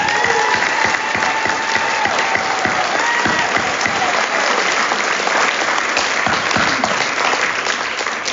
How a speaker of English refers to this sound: And then can I get a show of hands on anybody that's under a year sobriety? Can we give these people the round of applause?